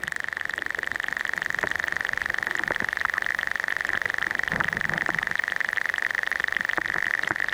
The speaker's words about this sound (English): It's amazing. That's a recording taken in the shallow waters of the Great Sands or Mud Island. What you can hear are marine crustaceans in the seagrass beds.